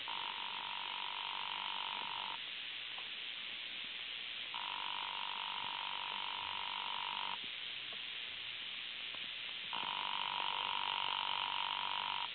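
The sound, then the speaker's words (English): A hotel room telephone in room 304 rings on and off in long, steady bursts, three rings with pauses between, thin and buzzy as if heard down a phone line, with no one picking up and no voices. “Phillips, room 304. I'll ring it for you.”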